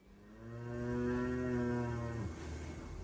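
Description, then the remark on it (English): A cow being hoof trimmed lets out one long, low, drawn-out moo that holds steady for about two seconds before breaking off, over a faint background hum. “Cow hoof trimming videos are incredibly popular among certain internet audiences.”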